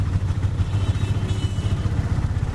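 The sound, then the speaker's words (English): A steady, throaty engine rumble of traffic with a motorcycle passing, fairly loud and continuous with a slight rattling pulse, no voices. “Or the only place had a background of traffic sound?”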